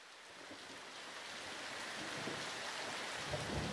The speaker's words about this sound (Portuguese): Eu abrigo-te no meu guarda-chuva, senão ainda ficas encharcada e apanhas uma constipação.